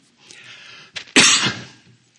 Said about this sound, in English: Seems like every time I get to hitting the rubber of the road, I start coughing.